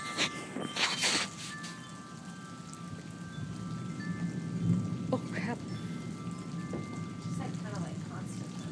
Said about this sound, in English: Listen to that rain. Wow, it's getting harder.